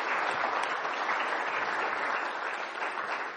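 Steady audience applause greeting a man and welcoming him into a new position, a dense crackle of many hands clapping at a constant level throughout, with no voices standing out.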